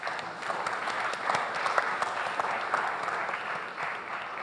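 An audience claps its hands for the sisters during a scripture reading, in steady, dense applause, many overlapping claps forming a sustained, moderately loud wash of sound with no talking over it.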